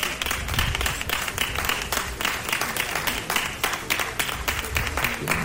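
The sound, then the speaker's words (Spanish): A crowd in Zamora applauds and cheers the arrival of the Queen Emerita, Sofía, in a steady, dense patter of many hands clapping at once, holding an even loudness throughout with faint voices mixed into the clapping. “La reina emérita llegaba a Zamora entre aplausos y vítores.”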